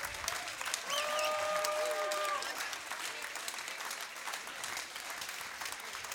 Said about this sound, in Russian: Да пусть не смолкают ваши аплодисменты.